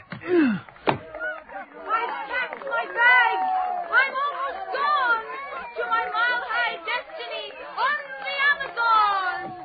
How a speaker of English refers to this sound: Look at the crowd waiting for him at the station. Look how the crowd parts for him. Like Moses and the Red Sea. He's going to address them. Open the window so we can hear.